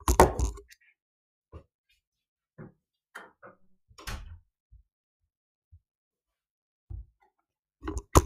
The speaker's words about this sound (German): Ich habe vergessen, die Tür zuzumachen, werde ich jetzt machen.